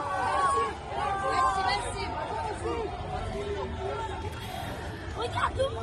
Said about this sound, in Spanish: Pues no hace falta más escuchar a muchos jóvenes eso, gritar Messi, Messi, Messi.